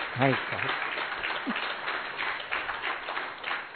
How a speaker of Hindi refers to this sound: फिर राष्ट्रभाषा में बोले थैंक गॉड दोस्तों आपने तालियां बजाई, नहीं तो I would have started in my native language of Malayalam also.